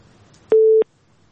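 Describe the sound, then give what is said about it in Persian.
A single steady electronic telephone busy tone, heard after a listener's phone call on a call-in line disconnects, sounds for about a third of a second, clear and loud over a faint low hum, then cuts off abruptly into near silence. “خب شماره از تلفنشان قطع شد، ببینیم که شنونده دیگر در لاین است اونا چی نظر دارند.”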